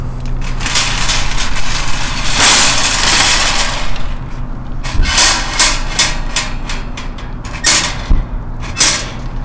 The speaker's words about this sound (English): Stopping to grab a cart just to make cart sounds.